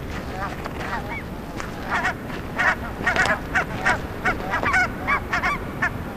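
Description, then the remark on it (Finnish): Geese honk repeatedly in a noisy flock at a shore, their harsh calls overlapping in uneven bursts over a low rumble of wind or water. “Jos ei lapset sitä tee, niin ainakin sitten linnut.”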